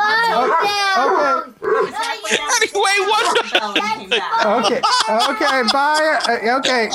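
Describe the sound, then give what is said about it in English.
A dog barks and yelps in a room, its calls tangled with a child's loud shouting and other voices talking over it almost continuously. “And now we got the dog.”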